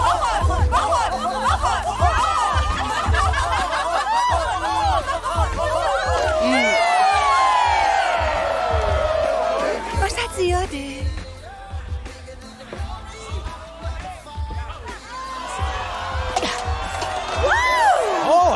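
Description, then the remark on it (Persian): A loud crowd cheers and whoops continuously, with excited shouting voices, chatter and scattered clapping blending into a dense, lively roar that dips briefly midway before swelling again. “تشویق نکن”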